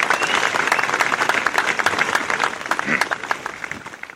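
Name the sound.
crowd applause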